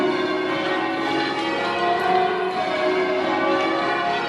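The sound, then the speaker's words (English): Church bells ring in rounds along a diatonic scale, a steady cascade of overlapping peals with rich, lingering tones. The ringing is continuous and fairly loud throughout, with no voices. “When you're ringing in rounds, that's what you hear, and then you go into changes, and it's mathematical equations based on those numbers, 8 bells, 6 bells, 13 bells.”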